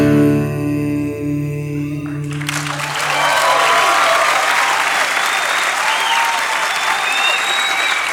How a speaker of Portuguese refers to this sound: Merece todas as palmas do mundo.